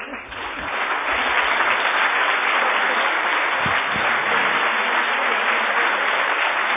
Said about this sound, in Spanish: Recibe una gran ovación de todos los asistentes a esta gala.